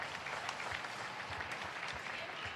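Steady audience applause in Usera, Madrid, a tribute to health workers broadcast live: a dense wash of many hands clapping at an even level throughout, with no pauses and no clear talking over it.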